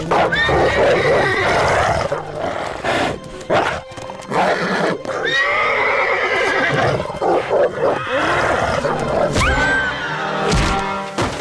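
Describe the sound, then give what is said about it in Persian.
A horse neighs and whinnies repeatedly in loud, shrill bursts with wavering pitch as it rears up on its hind legs when a wolf attacks, mixed with snorts and low grunting noises, with no speech. “اسب سر دو پای پیشوری خود استاد شد و گرگ در یک درخت زد.”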